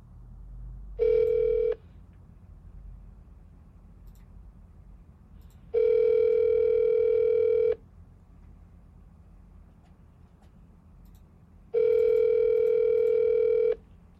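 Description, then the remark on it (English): A phone's outgoing ringback tone sounds three times, each steady electronic burst lasting about two seconds with long silent gaps between, heard clearly over a low background rumble, as a man's phone is called back while it is on Do Not Disturb. “Gonna call him right back. See if I can get through.”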